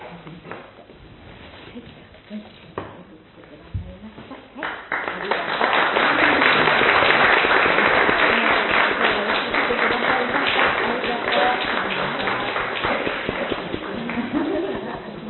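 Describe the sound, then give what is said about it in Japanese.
An audience bursts into sustained applause, building from scattered claps to a dense, steady wave of clapping that fills the room, with a few murmured voices underneath, as a present is handed over after a Christian prayer of blessing for a child and family. “拍手のうちにプレゼントをお渡しいただきます。”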